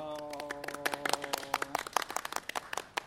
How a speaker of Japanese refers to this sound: 何の拍手ですかこれ。ご自身に拍手を送ってますけど。